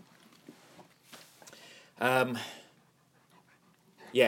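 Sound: dog panting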